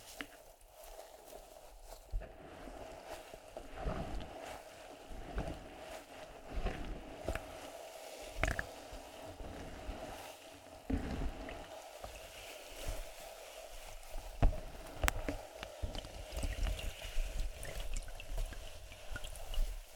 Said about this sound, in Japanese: その音は最初だけかもしれないね。いいよね、炭酸の音って。